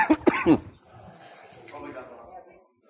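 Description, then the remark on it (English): Three quick, loud coughing bursts, followed by a quieter stretch of faint, indistinct voices murmuring in the background. “It very well could have got lost in the cough.”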